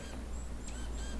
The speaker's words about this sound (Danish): Jeg sidder her helt alene. Der er ikke et menneske i nærheden. Jeg kan kun høre fuglene, der kvidrer, og så vinden i trætoppen.